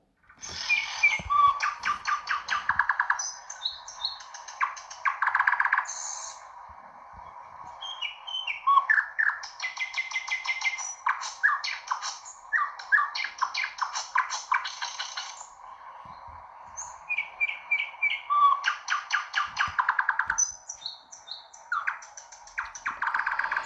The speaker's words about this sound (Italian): Io Ringhello la guarda e si accorge che la sua Iorinda si è tramutata in un usignolo che cantava.